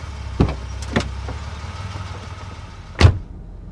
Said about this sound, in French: Voilà, ma voiture arrive. On va donc pouvoir monter et commencer cette activité soigneur d'un jour.